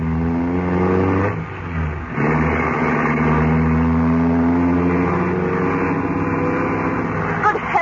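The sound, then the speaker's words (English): A car engine roars loud, revving hard as it speeds through narrow streets, dipping briefly before surging again with a rising, straining whine, no voices over it. “Going to drive through these narrow streets at this speed, is he?”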